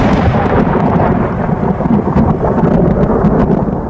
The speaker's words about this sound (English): Did you like the sound effect at least? I did. Thunderbolts and lightning, very, very frightening me.